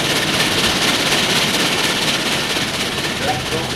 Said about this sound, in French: Enfin, le train arrive à la gare de Lyon. C'est en début d'après-midi.